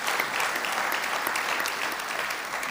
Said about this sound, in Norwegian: Skal vi ikke gi lovsangerne en stor applaus? De står på.